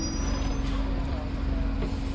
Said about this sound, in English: Ah, here's the tram stop.